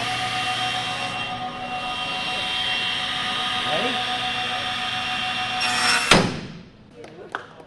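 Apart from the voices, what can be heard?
table saw running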